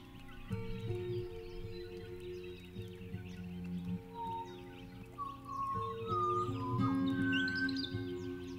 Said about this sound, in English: Ingrid Nielsen is explaining why bird calls feature so heavily in the piece of music you're hearing now. Ingrid took the bird songs and notated them, making them into a legible form, and used this to compose original music.